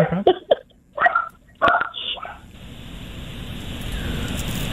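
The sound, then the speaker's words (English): A dog gives several short, sharp barks in an uneven burst, then falls quiet as a steady hiss of background noise takes over. “First, my dog's going to start barking.”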